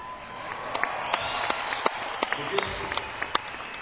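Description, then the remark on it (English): An audience in Las Vegas applauds steadily, with sharp individual claps standing out over a dense wash of clapping and faint crowd murmur, moderately loud throughout. “Little did he realize that in Las Vegas it would get a round of applause.”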